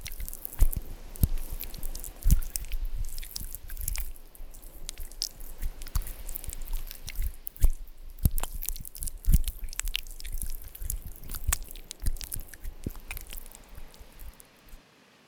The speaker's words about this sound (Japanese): お耳全体にオイルが広がったので、今度は両耳を引っ張ったり押したりしながら刺激を加えていきますね。